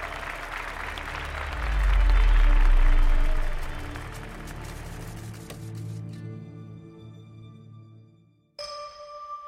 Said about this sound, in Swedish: När ljuset tänds i salongen bryter applåderna ut. Många jublar och klappar ivrigt. Andra långsammare, som om de fortfarande försöker ta in vad de just har sett.